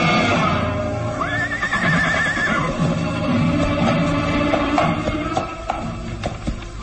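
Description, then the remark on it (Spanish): A horse whinnies loudly as its rider pulls on the reins to make it stop, its wavering neigh rising then trailing off, over a busy background of hoof clatter and rustling movement. “tira de las riendas del caballo, ordenándole detenerse.”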